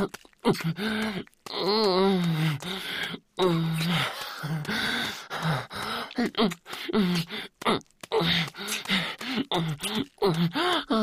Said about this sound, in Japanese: うめき声かわいい。もっともっと泣いて。